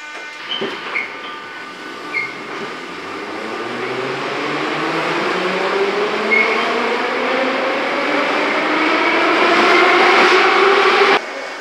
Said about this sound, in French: Je suis dans le métro moscovite et quelque chose me dit que ça ne tourne pas rond.